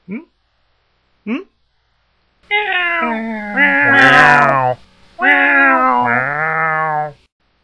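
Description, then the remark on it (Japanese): Two short, rising meows, then a loud, sustained chorus of many cats meowing at once, their overlapping cries wavering in pitch for several seconds before stopping. “ありえない数の猫に囲まれてしまった。”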